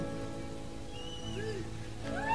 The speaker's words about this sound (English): the rain floods gutters and makes a great sound on concrete.